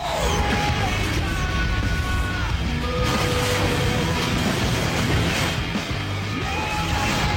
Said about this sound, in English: We talk about the music a lot, so let's play some of the drone music. This is what you're constantly listening to throughout the movie.